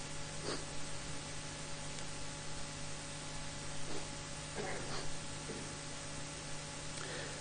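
Several short, breathy bursts of someone with a cold blowing their nose, fairly quiet and spaced apart, over a steady background hiss and low hum, with no talking.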